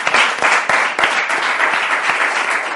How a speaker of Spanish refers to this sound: Mireia Portas, David Broncano, muchas gracias por acompañarnos. Aplausos para ellos.